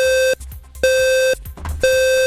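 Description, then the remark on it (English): A standard smoke detector alarm sounds three loud, shrill beeps in a steady rhythm, each about half a second long with short gaps between. There is no talking. “And a new type of fire alarm sound is being tested after research found standard smoke detectors don't wake up children in 80% of cases.”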